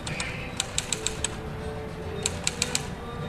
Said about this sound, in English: A typewriter. At a small table about the size of a TV dinner table sits a woman in her early 20s.